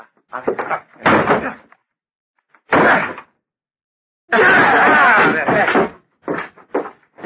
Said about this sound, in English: Open the door. It's locked. Then break it down.